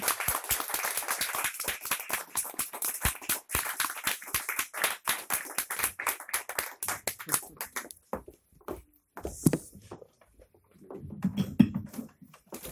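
A crowd claps in a dense burst of applause that gradually thins into scattered, individual claps, ending with a few isolated claps and a faint low murmur.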